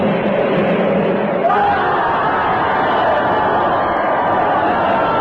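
A large crowd roars and shouts continuously, a dense wall of many overlapping voices that stays loud and steady throughout without any clear pauses.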